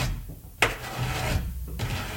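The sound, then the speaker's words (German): Rough scratching against a wooden bedroom door at night, a few raspy strokes with a sharp scrape near the start, then steady rubbing, fairly loud with no talking. “Ein Kratzen an ihrer Tür.”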